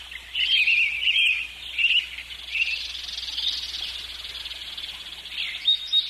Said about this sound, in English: Birds are coming in real loudly.